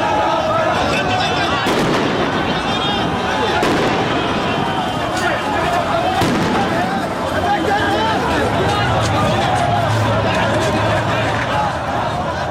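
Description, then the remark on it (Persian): Sharp cracks of gunfire as Iraqi security forces fire on a Friday morning to disperse protesters in Iraq, ringing out at irregular intervals over a loud, dense crowd din, with people shouting and milling about in a chaotic street protest against the government. “بنا به گزارش الجزیره، نیروهای امنیتی عراق صبح روز جمعه برای متفرق کردن معترضان اقدام به شلیک گلوله و پرتاب گاز اشکاور کردند.”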